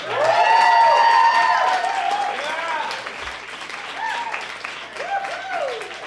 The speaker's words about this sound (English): That's a good show. Those are good people. Give them a cheer.